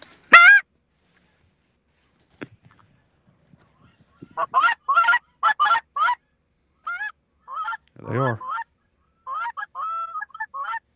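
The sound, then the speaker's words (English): A flock of small geese honks repeatedly in flight in short, high, yelping bursts, several birds calling over one another, with a brief spoken remark near the start. “Those are small geese.”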